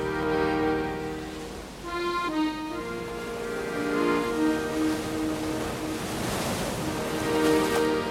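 Ocean waves wash and break on a shore in steady, rolling surges, mixed under sustained, droning musical tones with no one speaking.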